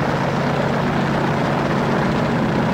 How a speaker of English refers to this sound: I remember when I was jump master, and I'd load a bunch of green recruits into an aircraft for that first static line jump. Man, I'd see the looks in their faces when that plane started up.